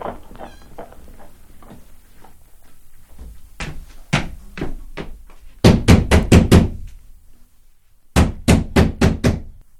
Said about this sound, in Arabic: من الطارق؟ أنا أخوك يا جعدة، افتح الباب